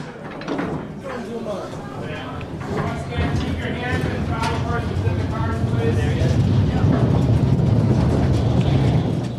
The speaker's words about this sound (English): And now that you're here, what you're going to do next? Right. You're going to wait for a train.